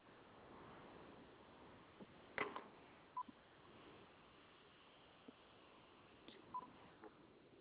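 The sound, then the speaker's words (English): A telephone line gives short, faint electronic beeps spaced a few seconds apart instead of a steady dial tone, with a couple of handset clicks over a quiet hiss and no talking. “There's no dial tone, it's just going beep, beep, beep, beep.”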